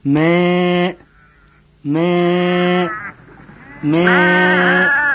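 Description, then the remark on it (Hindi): A sheep bleats loudly three times, each long wavering call lasting about a second with short pauses between, and no other sounds around it. “जब सूरज डूबे लगा तब गड़रिया अपनी भेड़न का आवाज दे के इकट्ठा किस।”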